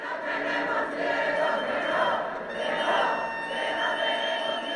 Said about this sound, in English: We are no longer afraid, screamed protesters outside the ruling party's headquarters last night, calling on Prime Minister Mariano Rajoy to resign.